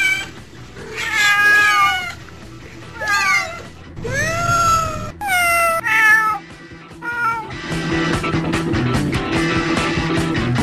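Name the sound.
cats meowing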